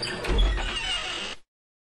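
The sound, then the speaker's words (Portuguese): A door creaks and scrapes open in one steady motion lasting over a second, with a low rumble underneath, then abrupt silence. “O caçador então, cheio de coragem, abriu a porta.”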